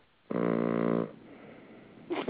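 A single loud, buzzy snore drones on a low steady pitch for under a second, then trails off into soft breathy noise before another rough sound begins at the very end.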